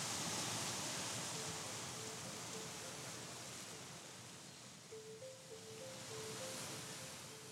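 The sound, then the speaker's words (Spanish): Gentle small waves of a calm sea wash steadily over wet sand on the shore in a soft, continuous hiss that swells and eases slightly, with faint, soft sustained tones drifting in the background toward the end. “Solamente en la orilla unas suaves olitas se columpian sobre la arena mojada.”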